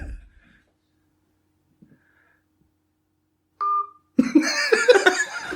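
A single short, steady electronic ring tone sounds as a telephone call connects, after near silence. It is followed by a burst of loud laughter.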